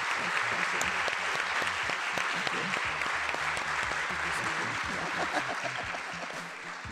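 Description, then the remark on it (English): A crowd applauds Dolores Huerta steadily for about seven seconds, a dense wash of clapping that stays loud throughout and tapers slightly at the end, with a few faint voices mixed in underneath. “So I'll give a big round of applause.”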